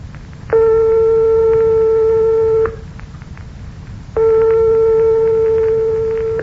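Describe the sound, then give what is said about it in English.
Two sustained, steady tones struck 1/100th of a tone apart sound one after the other, each about two seconds long with a short pause between. Their pitches are so close they seem identical, over a low background hum. “But suppose we strike two tones 1/100th of a tone apart, like this.”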